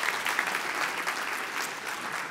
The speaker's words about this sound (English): In fact, he is in the room now. So, Rick, stand up. Give Rick a big hand clap.